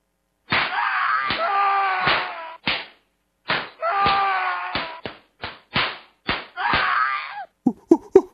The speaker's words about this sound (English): Let's give W the bitch slap. The inaugural bitch slap.